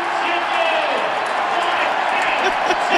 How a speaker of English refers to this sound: And everybody also gets chicken. So that's another reason why they're cheering.